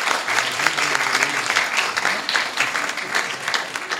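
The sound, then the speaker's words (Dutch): Many people clapping steadily for several seconds for the children after their little play and for everyone who helped, a dense, sustained round of applause with a faint voice or two murmuring underneath. “Nog eens een rondje van applaus voor de kindjes en voor iedereen dat meehopen.”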